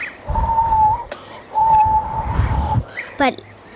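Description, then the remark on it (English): A person whistles, imitating a rooster's crow: two long, steady notes with breathy noise underneath, then a quick wavering trill at the end. “Like, he is whistling like this, but I'm not very good.”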